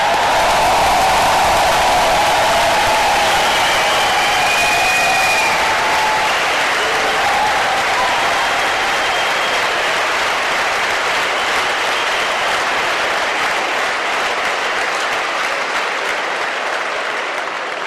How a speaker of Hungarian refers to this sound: Ennek szellemében köszöntöm és kérek egy nagy tapsot az itt megjelent középiskolás diákok számára.